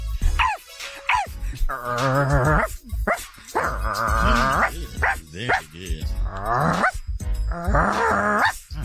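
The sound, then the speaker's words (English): A woman imitates a dog with a string of loud barks and growly yelps, several drawn-out howling bursts separated by short gasps, filling the whole stretch. “Now, watch her kill this one. Do a dog”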